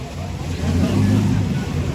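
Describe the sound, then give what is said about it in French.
A steady low engine drone of dozens of motorboats, heard from a distance and swelling slightly, as they encircle and herd dolphins toward a crowded beach in the Faroe Islands, with faint background chatter and general outdoor bustle. “Là, ce sont des bruits de moteurs de bateaux, des dizaines de bateaux en train d'encercler et de rabattre vers notre plage des dauphins encore plus nombreux.”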